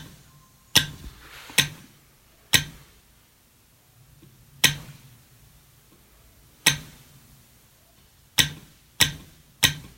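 Sharp, clicky taps on a homemade telegraph key, about eight in an uneven rhythm with short and longer gaps, each ringing briefly. No voices.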